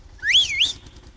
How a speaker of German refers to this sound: Jetzt muss ich da einmal an der Schneidinger Bulldog-Fahrerin da drin pfeifen.